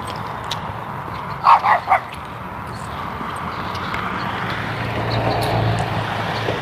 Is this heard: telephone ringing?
no